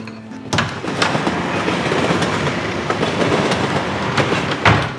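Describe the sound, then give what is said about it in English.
Train cars rumble steadily along the rails, a dense continuous roar with periodic clicks and clacks from the wheels, fairly loud, with no voices. “Now that you've filled your belly, let's check out the fifth train car.”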